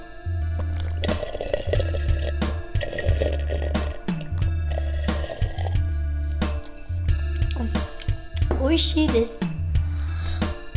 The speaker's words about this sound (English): おいしいです。これのお水はおいしいです。 So for you listeners at home, that water was delicious.